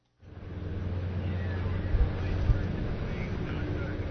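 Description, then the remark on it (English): A boat carrying reporters moves on the water between protesting fishing crews in Alaska, its engine a steady low drone beneath constant rushing wind and water noise, with a couple of brief thumps. “KDLG reporters were on the water moving between protesting crews who are calling on Alaskan processors to reconsider their historic low base price and bring more price transparency to the fishery.”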